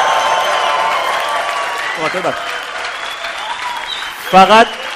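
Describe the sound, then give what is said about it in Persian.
A crowd applauds steadily throughout in honor of the coaches, with a few shrill cheers and whoops rising above the clapping near the middle and again near the end. “به افتخار کوچ جیغ و دست هورا.”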